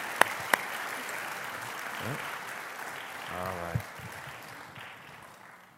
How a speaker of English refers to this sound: So would you give them a round of applause as they find their seat? Thank you guys so much.